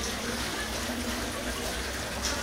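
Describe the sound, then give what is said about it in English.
Water splashes and trickles steadily as a hand dips into a marble well, a continuous wet rushing with a small splash near the end and no voices. “Got the hand in the water now.”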